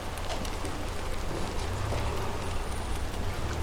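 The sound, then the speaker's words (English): Steady rain patters against old window glass, a dense hiss of countless small drop taps over a low, constant rumble, continuous and moderately soft throughout with no voices. “I mean, listening to the raindrops hitting the glass, doesn't that sound nice, baby?”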